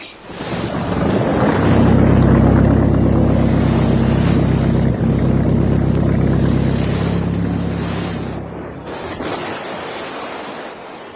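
A motorboat engine drones loudly and steadily for several seconds, a low throbbing hum with splashy rushing noise, then tapers off near the end. No voices are heard.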